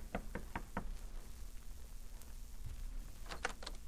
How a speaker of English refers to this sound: And White knocked on the door of her suite the following evening.